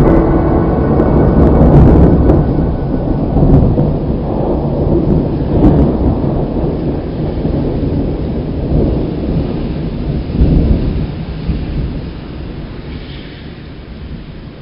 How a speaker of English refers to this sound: It's starting to rain.